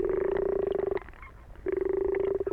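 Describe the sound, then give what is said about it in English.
Toad calls recorded underwater with a hydrophone in a pond at Broadwater Warren Nature Reserve, Kent, on a drizzly day: two long, low, buzzing trills made of rapid pulses, separated by a brief pause of quieter murmuring. No voices. “Using an underwater microphone called a hydrophone, we can hear their chirps and croaks, as well as the gentle patter of rain falling on the surface of the pond.”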